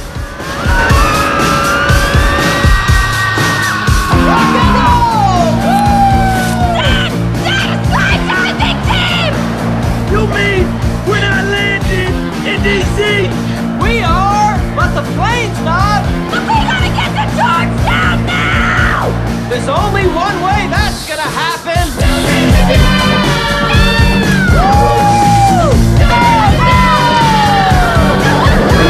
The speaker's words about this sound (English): look at each other, horrified, and scream.